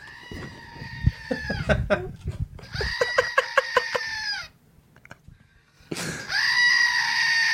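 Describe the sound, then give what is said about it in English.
A screaming goat toy lets out three loud, drawn-out bleating screams, separated by brief pauses filled with clicking and handling noise, with the last scream the strongest. “All right, so the screaming goat works.”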